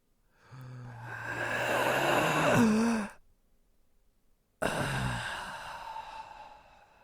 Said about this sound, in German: Pass auf, komm, wir atmen jetzt mal alle zusammen. Beruhigung. Wir atmen jetzt mal alle zusammen.